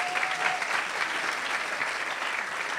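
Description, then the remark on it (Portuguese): A crowd applauds the speaker's wife steadily, a dense, even wash of many hands clapping at a constant moderate level for about three seconds, with no voices standing out. “Vocês podem bater uma salva de palmas, porque ela morre de vergonha.”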